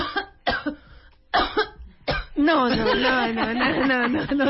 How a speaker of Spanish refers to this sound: Ahí está mi tos.